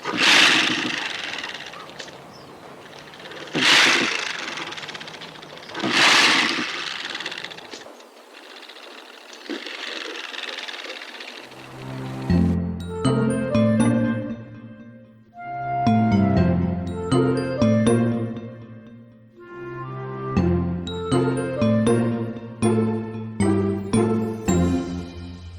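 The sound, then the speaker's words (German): A porcupine rattles its quills, in a sound-archive recording: dry, noisy rattling surges in a few loud bursts with rustling between, followed by a bright melodic passage of clear, tinkling tones that step up and down in pitch. “habe ich mal geschaut, gibt es denn in einem Geräuschearchiv mal ein rasselndes oder raschelndes Stachelschwein zu hören?”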